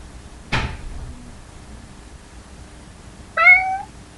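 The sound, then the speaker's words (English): A sharp knock or clack sounds early on, then after a quiet stretch a person gives one short, high, clear imitation of a cat's meow. “It's not often I get to meow on a podcast.”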